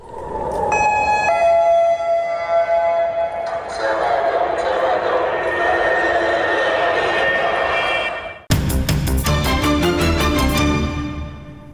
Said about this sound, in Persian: صدای آژیری که هر از چندگاهی در برخی شهرهای اسرائیل شنیده می شود. هشدار حمله راکتی.